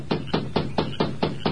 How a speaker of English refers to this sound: The masked man made his way through the darkness to the lighted bunkhouse. Then, with Dobbs close by, he rapped on the door.